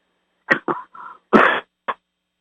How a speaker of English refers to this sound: I take a drink of water. Every time I cough, I take a drink of water. That's my way of getting rid of it. That's slowly going away.